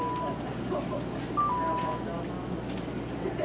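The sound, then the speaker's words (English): Short, thin electronic telephone tones beep a couple of times, fairly faint against a steady low hum and indistinct room murmur. “Was it the phone, dear?”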